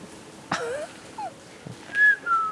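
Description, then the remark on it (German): Two short, clear whistle tones, blown to call guineafowl, sound near the end, the first louder and slightly higher, following a sharp knock and some faint rustling, with no talking. “Und für Perlhörner? Tun wir Pfeife.”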